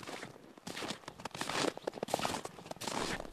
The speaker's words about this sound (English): About the only sound is the crunch of your footsteps around here.